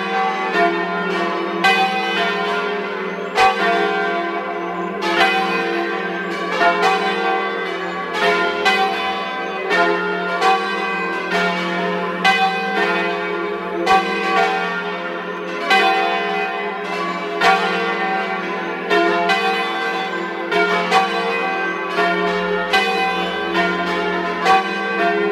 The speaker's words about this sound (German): Es ist 12 Uhr. Sie hören die Glocken der Pfarrkirche zu den heiligen Aposteln Petrus und Paulus aus Welschellnen in Südtirol.